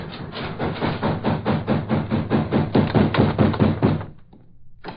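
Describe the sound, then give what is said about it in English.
Heavy, rapid pounding on a door by arriving Nazis, a steady barrage of loud dull thuds at about four blows per second for four seconds, then abruptly stopping into near silence. “Now I'll let them in before they break the door down.”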